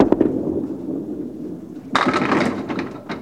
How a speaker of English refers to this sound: It is candlepin bowling, and at its heart, there are no contradictions at all. Set 'em up, knock 'em down. It's been that way forever.